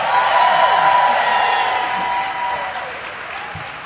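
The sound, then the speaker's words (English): A large crowd at a rally applauds in a dense, continuous wash of clapping mixed with faint cheering and whoops, loud at first and easing slightly toward the end. “By a round of applause, who here in 2016 voted for crooked Hillary Clinton?”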